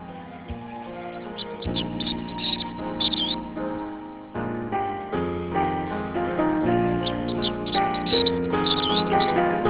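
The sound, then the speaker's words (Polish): Birds chirp and twitter in short bursts over a steady, mellow instrumental backdrop, played on the radio, the whole thing sounding slightly muffled like a broadcast, with no voices present. “Dlatego te ptaki tu zaśpiewały w radiu.”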